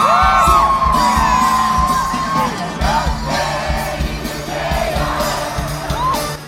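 A huge stadium crowd roars and cheers in a loud, continuous wash, with many voices whooping and yelling together and rhythmic chanting pulses running through it.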